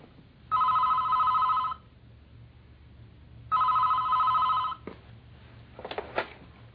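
A telephone rings twice, each loud electronic trill lasting about a second with a pause between, followed by a click and brief clatter like the handset being picked up.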